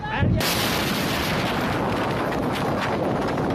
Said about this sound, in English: This is the sound of a deadly explosion at a port in southern Iran today that Iran's government TV says killed several people and injured over 500 others.